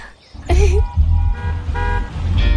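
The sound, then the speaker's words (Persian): A car horn toots several times in short, uneven bursts over a steady low engine rumble as the car arrives, sounding fairly loud. “ماشینمون رسید.”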